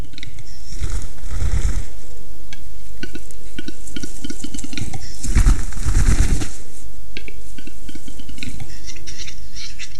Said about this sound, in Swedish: Och inne i skogen de spelande tjädertupparna. Det här vingbullret som de gör, det är väldigt mäktigt och hörs bra mycket längre än knäppen och sisningarna de gör med näbben.